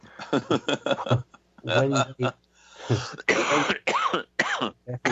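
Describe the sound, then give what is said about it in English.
A loud run of harsh coughs and throat clearing, several rough bursts in quick succession mixed with strained voiced noises, like someone caught in a coughing fit. “give yourself a coughing fit.”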